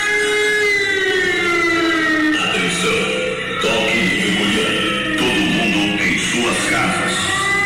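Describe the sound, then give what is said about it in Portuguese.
A siren alert blares from a sound truck's loudspeaker as it circulates through the city streets around 7:30–7:45 in the evening, warning the population to stay at home under COVID-19 restrictions: a loud, buzzy, harmonic-rich wail that glides slowly up and down in pitch without pause for the whole stretch. “E perto desse horário, coisa de 7h30, 7h45 da noite, um carro de som estava circulando pelas ruas da cidade, alertando para que a população fique em casa.”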